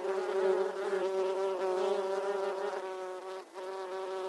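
insect, swarm of bees buzzing

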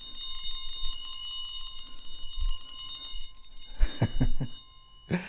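signal or alarm, hand bell ringing

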